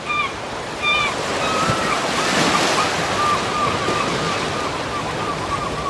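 Steady North Sea surf washes along the shore, a broad rushing roar that swells as a wave breaks midway, with faint high calls drifting over it and a breezy hiss throughout.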